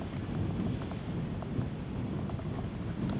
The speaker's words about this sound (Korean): 바닥이 찰싹찰싹. 아이고, 파도구나.